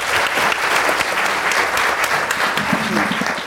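A crowd claps steadily for a few seconds, a dense, loud patter of many hands with a faint voice murmuring underneath toward the end.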